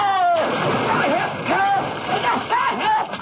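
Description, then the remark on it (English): A person is pushed off a pier and plunges into a river with a loud splash, followed by continuous churning, thrashing water while voices cry out and shout over the commotion. “Push you into the river. What are you talking about? Right off the pier!”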